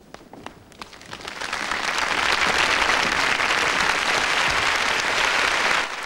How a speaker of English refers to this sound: Rita, Vera, Ida, Sandra and the children stand and begin to clap. Others follow.